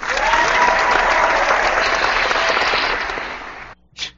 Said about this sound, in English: Stuttered applause there.